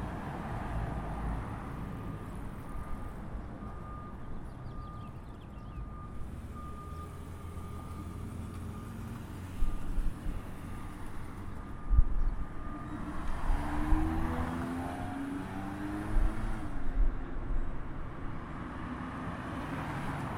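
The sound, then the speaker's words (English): A faint, thin electronic beep from a pedestrian crossing audible signal, pressed by a pedestrian at an intersection in Southern California around 7:30 in the morning, about 68 degrees with a breeze, holds steady for several seconds over the low rumble of street traffic, with vehicles passing near the end. “Not sure if you're able to hear that little beep, but that was one of the pedestrians pressing the audible signal buzzer.”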